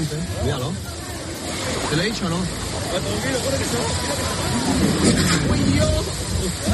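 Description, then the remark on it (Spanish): A motorboat's steady engine rumble and water wash fill the scene as it reaches the shore at a stairway in Melilla, with several excited voices calling and talking over each other as a group of almost 20 people, including women and children, climb off. “vídeo y sonido de este fin de semana en Melilla, momento en que una lancha pues llega hasta la orilla, una escalinata, y desembarcan un grupo de casi 20 personas, entre ellas mujeres y niños.”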